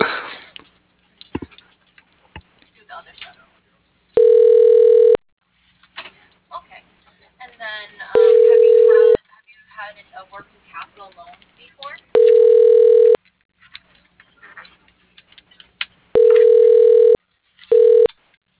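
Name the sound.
telephone ringing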